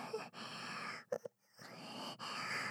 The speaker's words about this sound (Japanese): 吐息でふうってされるのくすぐたい。